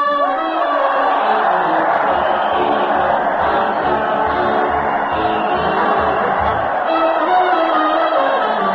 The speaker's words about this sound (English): Listen to that crowd. Fred Allen is leading his weekly parade to the old town hall, and the people are giving him and the thundering band cheer after cheer